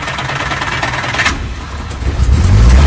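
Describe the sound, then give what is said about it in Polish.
An old Żuk 151C delivery van's engine cranks and catches on a test start, then settles into a loud, rough rumble that swells as it revs, with no talking. “Możemy odpalić go na próbę? Możemy.”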